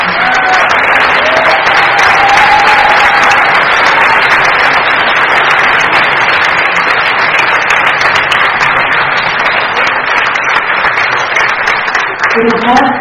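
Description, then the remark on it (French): At the Cascabane festival, a crowd applauds the festival team, staff, technicians and volunteers steadily, dense clapping filling the whole stretch at a loud, even level, with a few brief whoops or cheers rising above it early on. “Alors, je voulais aussi remercier toute l'équipe de Cascabane, du festival, de l'organisation, les services administratifs, logistiques, les techniciens, les bénévoles, et je voudrais qu'on les applaudisse tout le monde en fait.”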